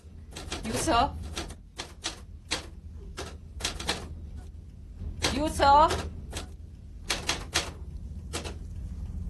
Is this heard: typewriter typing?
yes